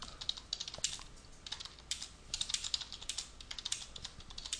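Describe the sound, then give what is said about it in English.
Rapid, uneven clicking of keys on a computer keyboard, fairly quiet, with short bursts and brief pauses between strokes and no voices. “I'm having a hard time typing this, obviously.”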